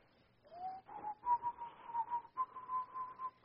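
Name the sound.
person whistling a tune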